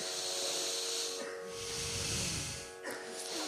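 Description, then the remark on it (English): Slow, deep breaths rush in and out as airy, hissing swells, one long inhale and exhale following another, fairly loud over a faint steady hum, as a person breathes deeply during a breathing exercise. “Deep breathing.”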